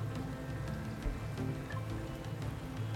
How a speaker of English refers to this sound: Listen to the rain with me. I love listening to the rain. While we are sat here, cozy, everything is getting so wet outside. The sound of rain is so hypnotic, isn't it? Makes me feel so relaxed, so cozy.